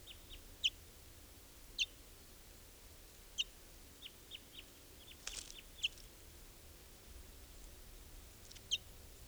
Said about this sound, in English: Right here, I've got I'm standing right next to a bird. Barely fledged, I think.